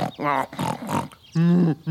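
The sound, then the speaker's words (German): A human voice imitates pigs grunting on a farm: several short, throaty, voiced bursts, ending with a longer, louder grunting sound. “Manchmal lauerte sie mit gekringeltem Schwanz unter den Schweinen.”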